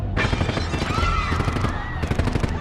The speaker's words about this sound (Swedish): 86 avlossade kulor senare springer Griseldas pistoleros därifrån.